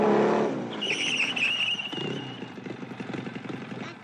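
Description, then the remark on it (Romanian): A motorcycle engine revs loudly, with a high whining squeal briefly riding over the rumble before the engine settles into a steady, sputtering drone. No one speaks. “Vine cu motocicleta aia.”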